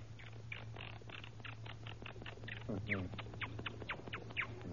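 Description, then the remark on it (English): A voice imitates a monkey with a rapid, continuous run of high, squeaky chattering calls, briefly rising into a longer shriek midway, clear over a low steady hum. “Now a monkey.”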